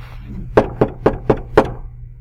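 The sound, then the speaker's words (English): Five sharp knocks on a wooden door, evenly spaced in a steady rhythm, fairly loud over a low background hum, with no voices. “He's standing at the door of the church and he's knocking.”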